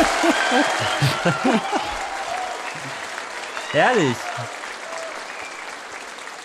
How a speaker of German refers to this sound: Applaus.